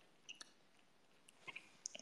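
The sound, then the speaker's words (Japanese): Soft, close-up mouth sounds of chewing: a scattering of small wet clicks and smacks at irregular moments over a quiet background, with no talking. “咀嚼音まで聞こえるのってやだ。”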